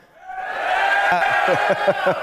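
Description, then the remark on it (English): A large live crowd of Armagh supporters cheers, the roar swelling quickly and holding loud and steady, with a few rhythmic low thumps or shouts punching through near the end. “Give us another cheer, Armagh.”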